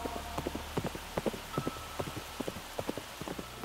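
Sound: horse hooves clip-clopping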